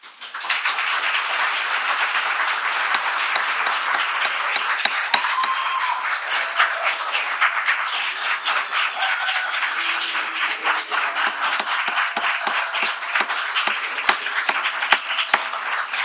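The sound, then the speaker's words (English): Sustained applause from an audience at a public meeting, a dense wash of many hands clapping at once, steady and loud throughout with a few sharper individual claps standing out. “Control the applause during the discussion today.”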